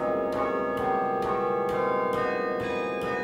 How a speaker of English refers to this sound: And so as we listen to the chimes now that are 21 bells, one of those new ones is because of a gift to Dale and Nellie.